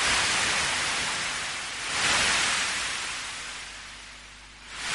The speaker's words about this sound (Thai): แต่สำหรับมนุษย์นั้นก็คงเชื่อแน่ได้นะครับว่าเสียงคลื่นที่ม้วนตัวซัดฟังจะยังคงเป็นมนต์ขลังเรียกร้องสำหรับร่างกายและหัวใจที่ต้องการทะเลอยู่ต่อไปครับ